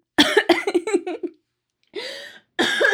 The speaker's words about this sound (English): I'm so sorry, I like breathe in. I was talking and I breathed in at the same time and I coughed. I'm sorry.